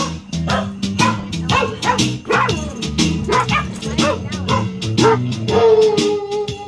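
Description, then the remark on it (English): Rescued husky sled dogs from Door County bark and yip repeatedly in quick, overlapping bursts, loud, over a steady backdrop of their own theme music as they arrive at Clutch Park in Milwaukee on their specially outfitted bus. “The Door County sled dogs arrive in Milwaukee's Clutch Park in style.”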